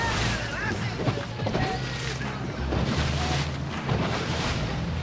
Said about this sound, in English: The speedboat begins to roar as we continue to follow these women back towards St. Mary's, back towards the quay.